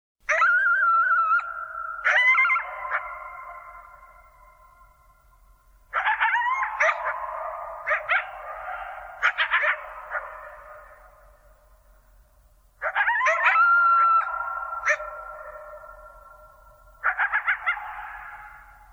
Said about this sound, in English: Listen closely, Steve, because there's not one coyote, but there are two. And they're singing to each other after a long season of prosperity. And to me, it sounds like a celebration.